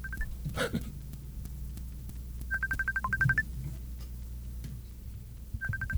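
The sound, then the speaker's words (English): A quick run of phone keypad tones beeps out in short bursts as someone dials to call a brother, pauses, then a few more digits are dialed, clear over a low background hum. “Should we try to call my brother or not?”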